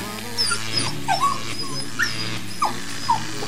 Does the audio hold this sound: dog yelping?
yes